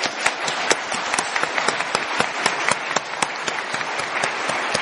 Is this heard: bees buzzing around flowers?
no